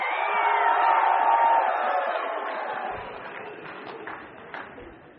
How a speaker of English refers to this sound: Oh, let's get a rousing cheer like Texas. Come on.